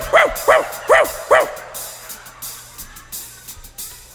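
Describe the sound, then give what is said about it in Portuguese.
Four quick, high-pitched yips evenly spaced in the first second and a half, a voice imitating a puppy barking, followed by faint background noise and murmurs. “E depois imite um cachorrinho.”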